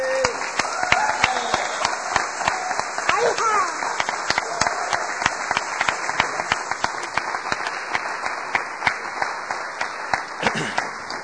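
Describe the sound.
A room full of people applauds steadily, dense overlapping claps sustained for several seconds at a fairly close, even loudness, with scattered voices mixed in.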